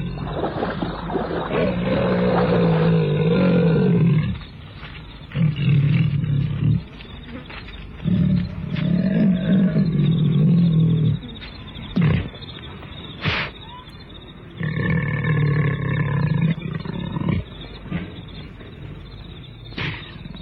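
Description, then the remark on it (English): A leopard attacking its prey snarls and growls in loud, rough bursts, with harsh low rumbles broken by short pauses and a few sharp higher cries over a steady insect-like hum. “He lets out a strangled cry before the leopard attacks.”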